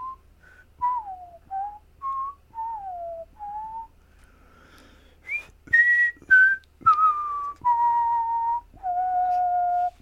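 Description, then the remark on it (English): A person whistles a halting, uneven tune: short wavering notes at first, then louder held tones with abrupt breaks between them. There is no speech. “If there's not, then you'll hear me whistling awkwardly.”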